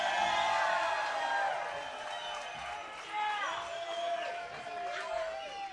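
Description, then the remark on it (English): A large concert crowd shouts and cheers continuously, with many overlapping voices and rising whoops cutting through a loud, sustained roar of the audience. “If by shouting you mean you want us to play another song, we'll do just that.”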